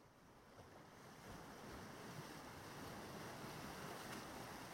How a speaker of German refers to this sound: Du hörst das Rauschen der Wellen, die sich immer wieder neu aufbauen und dann ans Ufer hinabgleiten.